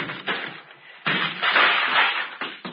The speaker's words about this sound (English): Yeah, Lieutenant. Breaking down the door. Good.